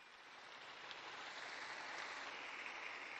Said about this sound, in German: Und diesen großen Papst der letzten Jahre, den begrüßen Sie mit einem großen Applaus.